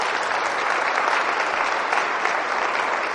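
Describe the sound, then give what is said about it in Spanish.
A church audience claps for Jesus steadily, a dense, even wash of many hands with no pauses or speech over it, holding at the same loud level throughout. “Pues nosotros no somos mafiosos y nosotros tenemos confianza en uno que no es mafioso, sino uno que merece todo honor y gloria y se llama Jesús, y no le hemos dado un aplauso en este momento.”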